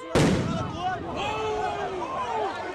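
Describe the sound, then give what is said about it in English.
A stun grenade fired by Brazilian police right into a crowd of protesters in the streets goes off with one sudden, loud, sharp bang, followed by a crowd of voices shouting and wailing in rising and falling cries. “A stun grenade fired right into the crowd, then another and another.”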